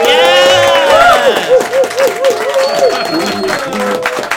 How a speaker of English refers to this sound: you can turn the applause sign off. Thank you very much.